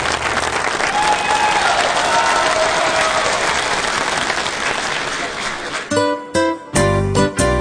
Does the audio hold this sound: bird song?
no